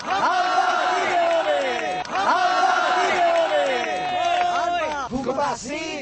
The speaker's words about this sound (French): Musique cubaine, coups de sifflet, slogans